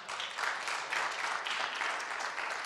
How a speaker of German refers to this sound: dieser Applaus, der gilt dir. Und vielen, vielen Dank.